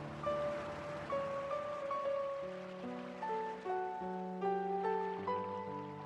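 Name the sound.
flowing water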